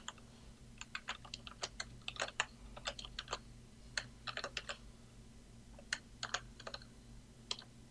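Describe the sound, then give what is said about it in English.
Rapid keyboard typing into an app's input text box to test it, in irregular bursts of crisp clicks, with brief pauses between flurries and a low steady hum underneath. No one speaks. “Since this is an input text box, you can test it directly by typing in stuff.”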